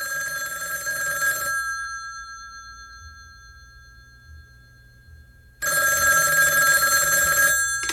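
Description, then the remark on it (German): A man's telephone rings loudly in two long bursts of bright, metallic bell trilling, separated by about four seconds of near silence with a faint low hum underneath. “An dem Tag, an dem er diesen Plan in die Tat umsetzen wollte, schrillte bei ihm das Telefon.”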